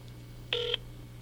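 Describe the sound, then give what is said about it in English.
A single short telephone touch-tone keypad beep over speakerphone, a quarter-second dual-pitched tone, sounding clearly over a low, steady electrical hum. No one speaks. “Give me a dial tone.”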